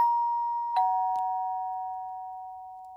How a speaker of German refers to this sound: Zumindest kann ich mich nicht mehr an die folgenden Stunden erinnern, bis es plötzlich an meiner Haustür klingelte.